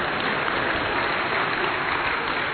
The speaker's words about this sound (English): Why are you clapping? You're clapping either because you are clapping because you see the great hand of grace that I'm a married man at this moment. That is worship to God in your clapping.